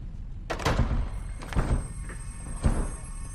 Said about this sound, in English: you've broken the door. This isn't funny!